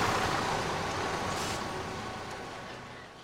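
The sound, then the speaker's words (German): A large city bus rumbles in with a broad engine roar and a brief hiss of air brakes midway, the noise slowly easing as it pulls to a stop. No voices. “Der Bus kam und Justus konnte sehen, dass die Frau im weißen Mantel vorne beim Fahrer einstieg”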